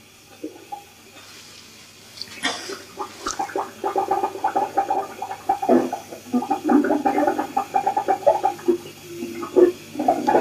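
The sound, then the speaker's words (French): Water gurgles and bubbles in city sewers, an irregular, churning stream of wet pops and glugs, starting faint and growing steadily louder after a couple of seconds, with no voices. “Les égouts de la ville, musique secrète des fermentations, des égouts de la ville.”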